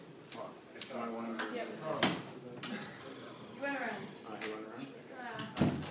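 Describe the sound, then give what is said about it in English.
A door clunks open with a couple of sharp knocks and rattles as someone comes in, beneath steady talking. “You could have come through that door, that's fine.”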